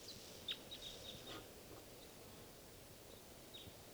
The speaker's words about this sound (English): I think there's at least two birds here